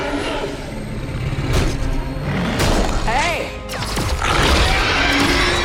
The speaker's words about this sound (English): The creature breaks through the door from the corridor.